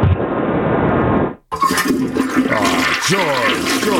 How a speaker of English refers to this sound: And Drain sponsors that particular flush.